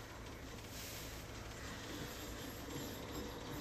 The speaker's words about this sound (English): Where's the train at? Is it coming?